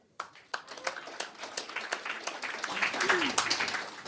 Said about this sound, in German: Und wir müssen uns dann ehrenhalber, und ich hoffe, Sie gutieren das zum Beispiel durch Klatschen, dass Frau Poschmann einen Tag nach ihrem Geburtstag hier nach Frankfurt gekommen ist.